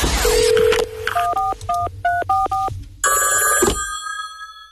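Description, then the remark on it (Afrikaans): A dial tone and a quick run of keypad beeps, then a loud telephone ring bursts in briefly and cuts off. No one speaks. “Net die oomblik, foon lei, boom, hoe antwoord jy hom?”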